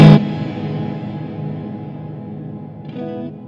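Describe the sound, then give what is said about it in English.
An electric guitar through a touch-responsive reverb pedal, where picking harder gives stronger reverb: one hard-picked chord blooms into a long, washy tail, then a softer note rings out near the end. No one speaks. “But the more you dig in, the harder the reverb.”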